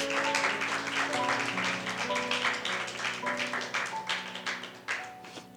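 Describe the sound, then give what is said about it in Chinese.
A crowd applauds steadily for several seconds, giving its applause to Jesus. The dense clapping stays fairly loud and then thins toward the end, with sustained keyboard chords playing underneath. “我们把掌声归给耶稣，归给他。”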